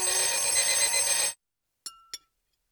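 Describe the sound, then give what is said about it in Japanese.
An alarm clock rings loudly with a dense, shrill metallic jangle for over a second, then stops abruptly, followed by two short, sharp clicks or tings as it is silenced. “るさいぞ。目覚まし止めろ。”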